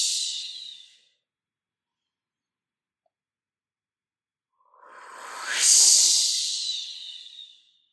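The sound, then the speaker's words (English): A breathy, hissing tail of air fades out, then after a pause a long whooshing exhale swells and slowly trails off, with no one talking. It is a deliberate whooshing exhale in a breathing exercise, releasing all the air after inhaling deeply through the nose and holding the breath. “Make that whoosh sound as you exhale.”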